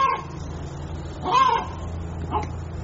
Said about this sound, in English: Ladies and gentlemen, I got a chicken over here that is about to drive me nuts.